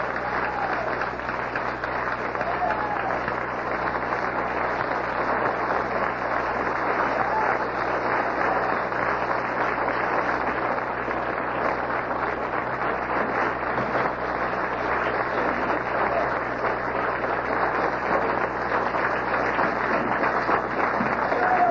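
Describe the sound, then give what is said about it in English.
Sustained applause from a large audience for Minister Khalid Abdul Muhammad, a dense, steady roar of clapping that holds at an even loudness for the full twenty seconds without fading. “By popular demand, let's give him a round of applause.”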